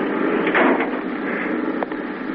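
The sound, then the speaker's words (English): A door being shut against a steady background hiss, with a scraping movement early on and a short, soft knock near the end as it closes. No one speaks. “Shut the door, please.”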